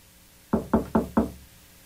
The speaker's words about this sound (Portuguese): já tá batendo na porta.